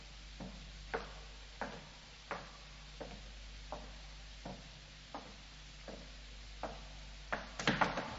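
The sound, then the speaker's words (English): A skeleton key works a door lock, with soft, evenly spaced ticking clicks followed by a quick burst of metallic rattling at the end. It is quiet, and no one speaks. “Well, here's the door. I'll use the skeleton key. Ah, yes, that's it.”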